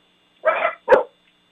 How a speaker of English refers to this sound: The dogs are starting to bark.